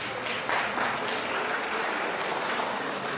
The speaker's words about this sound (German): Also erstmal ein großer Applaus für alle, die ihre Story erzählt haben. Wunderbar.